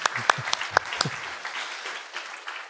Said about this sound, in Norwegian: Nå kan dere sette dere. Vi gir dere en applaus. Tusen takk for innsatsen.